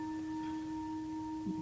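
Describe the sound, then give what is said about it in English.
A bell resting in the palm of an open hand rings freely and sustains a steady, pure tone with a few clear overtones humming evenly throughout, fairly soft, with a brief faint rustle near the end and no voices. “If I give up grabbing once and for all, but I hold it with an open hand, so the bell rests in the palm of my hand.”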